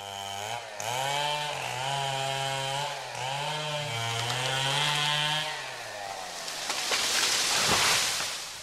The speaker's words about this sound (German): Vielerorts im Rheinland und Ruhrgebiet dröhnen derzeit die Kettensägen. Bergahorne müssen daran glauben, weil sie schwer erkrankt sind.